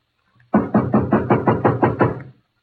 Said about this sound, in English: Shall we knock or force our way in? I will knock.